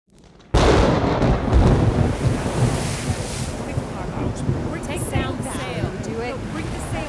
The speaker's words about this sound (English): What from that bluff can you see out at sea? Nothing at all. It is very rough water. Ah, the wind is also roughing up the land.